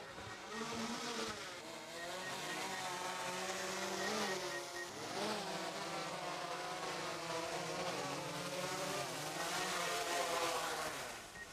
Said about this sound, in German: Dann lass uns die Drohne mal wieder sicher auf den Boden zurückholen.